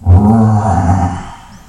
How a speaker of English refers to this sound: Just like if a person is walking through a forest, and he is walking very peacefully and happily, and suddenly he hears a roaring sound in the forest.